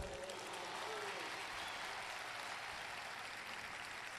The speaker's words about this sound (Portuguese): Depois de ter sido longamente aplaudido, João Paulo II acrescentou: Eu não sou contrário aos aplausos, porque quando. Não sou contrário aos aplausos, porque quando vocês aplaudem, o Papa pode descansar um pouco.